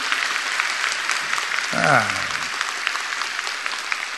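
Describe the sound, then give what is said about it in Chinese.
Steady, fairly light audience applause throughout, a dense patter of claps, with a brief burst of voices calling out partway through. “这么精彩，怎么鼓掌声这么一点点呢？”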